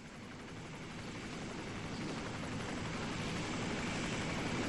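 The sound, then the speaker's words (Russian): A Black Hawk helicopter roars overhead as it appears over a hill, its rotors producing a dense, steady thrum that swells slightly louder over a few seconds, with no voices present. “Воздух задрожал, наполнился громким рокотом винтов, когда над холмом показался черный ястреб.”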